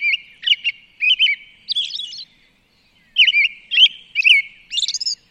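A Swainson's thrush sings clear, fluty phrases, several bursts of rising, spiraling notes with a short pause midway. The song is distinct, with no voices or other sounds around it.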